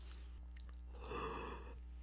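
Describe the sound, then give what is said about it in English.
A single muffled cough, fairly soft, with no talking around it. It rises out of a quiet, steady background hum, lasts under a second, then fades back. “Or station cough.”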